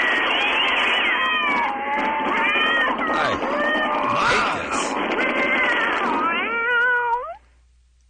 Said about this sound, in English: Oh, there's a whole bunch of cats.